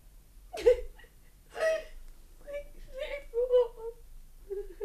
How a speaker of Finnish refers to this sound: Miksi … itkee?